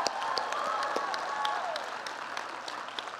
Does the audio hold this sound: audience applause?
yes